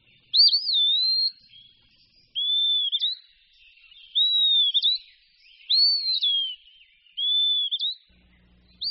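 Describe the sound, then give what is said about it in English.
An eastern wood pewee sings a series of clear, high, slurred whistles, five full phrases with a sixth just beginning, spaced about every one and a half seconds, with no other sounds. “The eastern wood pewee is an example.”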